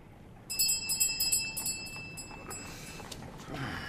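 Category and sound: household object, doorbell being rung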